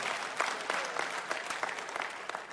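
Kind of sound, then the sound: crowd, audience clapping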